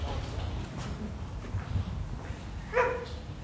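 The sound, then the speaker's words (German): Paul, a mixed-breed dog kept at an agency office since 2012, lets out a single short, sharp bark near the end, standing out over a steady low indoor rumble; no one speaks. “Das ist Agenturhund Paul, ist ein ganz lieber Mischling.”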